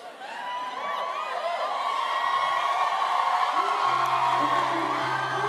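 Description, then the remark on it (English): A rowdy 3 o'clock crowd whoops, yells and cheers in a dense, sustained roar that rises quickly and holds steady, with many voices blending together and a low hum entering near the end. “This 3 o'clock crowd is a little rowdy, y'all.”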